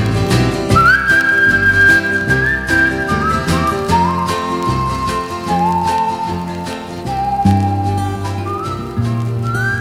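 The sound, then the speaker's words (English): A grandmother whistles a slow, hymn-like melody in clear, sustained notes that step gradually downward, carried over a full, steady instrumental accompaniment with no talking. “Grandma whistling, what a friend we have in Jesus.”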